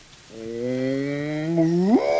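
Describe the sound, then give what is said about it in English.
A single sustained cow moo with a rising pitch at the end, played loud as a recorded sound effect when a button on a toy is pressed, with no talking over it. “If I press this button, too, you can hear a moo cow moo.”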